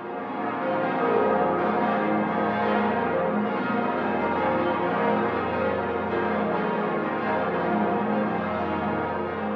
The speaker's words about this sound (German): Und nun läuten Glocken großer romanischer Dome die Weihnacht ein.